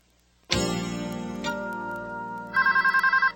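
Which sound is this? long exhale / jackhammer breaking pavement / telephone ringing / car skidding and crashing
telephone ringing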